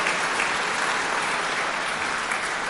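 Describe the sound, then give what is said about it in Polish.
A crowd at a Rehab for the Blind in Poland event applauds to welcome a member of parliament, with dense, continuous clapping that holds an even loudness throughout, and no voices are heard over it. “Serdeczne brawo dla pani poseł.”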